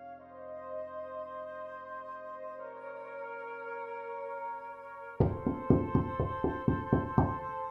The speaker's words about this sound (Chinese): 2003年大年初三傍晚，随着一阵敲门声，闯进来十多个警察